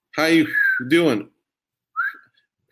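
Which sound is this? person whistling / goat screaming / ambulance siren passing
person whistling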